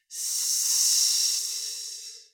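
A snake hisses in one long, steady breathy burst lasting about two seconds, fairly loud, then trails off. No one speaks.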